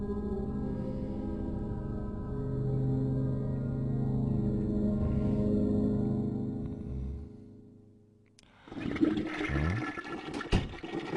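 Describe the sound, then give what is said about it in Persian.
A toilet flushes with a long, steady rushing roar of water that swirls down and fades, followed by a brief clattering, gurgling refill burst near the end. No one speaks. “ببخشید، باید دوبار سیفونو میزدم.”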